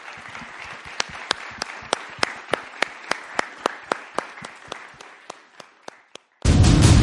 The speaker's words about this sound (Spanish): gracias en verdad, y les pido un aplauso también para despedirlos a ellos.